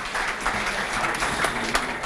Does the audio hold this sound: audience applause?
yes